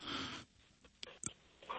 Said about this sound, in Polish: Słyszę oddech, nie słyszę człowieka.